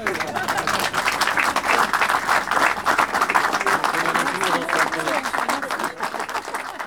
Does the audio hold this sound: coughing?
no